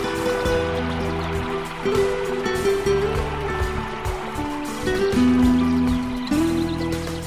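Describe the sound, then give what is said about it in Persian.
A steady, continuous rush of flowing water, even in loudness, with a soft sustained musical tone running underneath and no one speaking. “صدای پای آب.”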